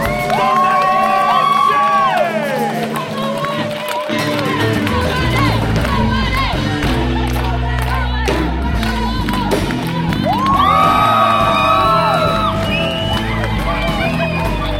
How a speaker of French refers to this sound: Mesdames et messieurs, un tonnerre d'applaudissements!